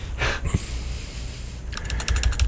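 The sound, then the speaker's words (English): Typing on a computer keyboard as a DJ tries to bring up a song: a few scattered keystrokes, a pause, then a quick run of rapid, crisp clicks toward the end, moderately loud with no one talking. “All right, you can hear the typing here as the DJ tries to bring this right up here.”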